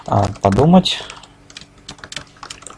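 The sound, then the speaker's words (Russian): A voice speaks briefly, then a run of quick, uneven keyboard keystrokes follows, moderately loud, as someone types a short text comment with feedback. “И, наконец, на экране выбора он тоже хочет оставить свой фидбэк, и он оставляет его в виде текстового комментария.”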